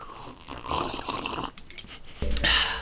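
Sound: sipping water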